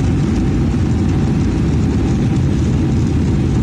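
A loud, steady roar of a Boeing airliner's engines at takeoff power on a Houston-bound Southwest Airlines flight, dense low rumble with a broad hiss above, continuous throughout with no voices.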